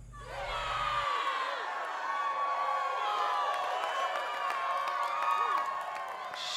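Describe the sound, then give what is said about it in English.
A large crowd cheers loudly and steadily for a contestant, an Olympian representing the United States, with high whoops and shouts rising above a dense roar that holds for several seconds. “Sounds like he brought his own cheer brigade.”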